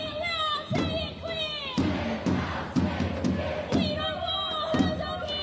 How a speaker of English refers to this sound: They say the crowd stood peacefully and chanted in between speeches from people like former Australian of the Year Grace Tame, Jewish academic Anthony Lowenstein, and Amnesty International Australia spokesman Mohammed Dua.